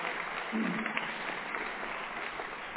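A steady wash of applause from an audience, dense and continuous clapping for a few seconds at moderate loudness, with no clear speech on top.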